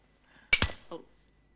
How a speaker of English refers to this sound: Miller tries to pick up a cup, but it's frozen in place, and the handle snaps off in his fingers.